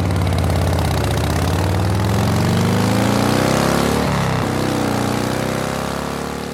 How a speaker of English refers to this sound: But in 1948, the newly debuted panhead is no joke. And it's got a spine-shattering 50 horsepower engine to prove it.